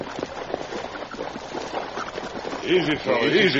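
Several ridden horses splash through the shallow water along the edge of a river at a steady pace, hooves churning and sloshing, with a brief whinnying cry rising near the end.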